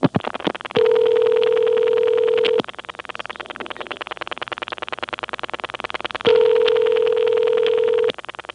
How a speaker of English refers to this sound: Okay, I dialed 5. Now I'll dial a ringing test termination, the last 5 digits only.